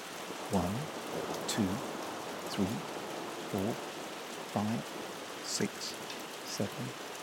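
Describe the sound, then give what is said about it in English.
Steady rain hisses continuously throughout, with raindrops pattering and a soft, low thud recurring roughly once a second over the wash. “I'm going to go and count raindrops.”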